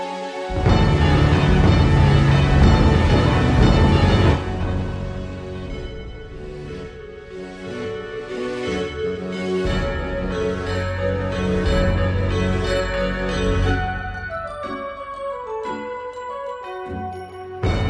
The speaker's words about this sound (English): Live, ladies and gentlemen, we are ringing the bell of freedom, the Liberty Bell, if you will, ladies and gentlemen. Christmas bells.